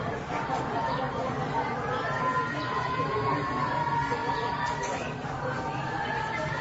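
A steady wash of crowd noise from a large crowd at a baseball game, with many overlapping voices forming an unbroken murmur of chatter at an even level throughout, with no distinct words standing out.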